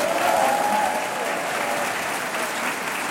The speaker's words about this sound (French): Et on les accueille, comme il se doit, avec de chaleureux applaudissements.